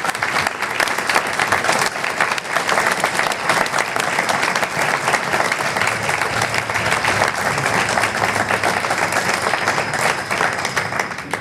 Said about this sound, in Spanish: Entón, moitísimas gracias a eles, vamos a dar un forte aplauso por compartir con nos a súa experiencia.